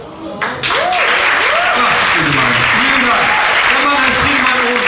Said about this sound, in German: Na, wenn das mal nicht einen Applaus wert ist.